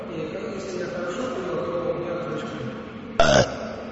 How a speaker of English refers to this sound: I, for instance, have the habit that after each meal I take a little rest. And when the meal was good, I burp.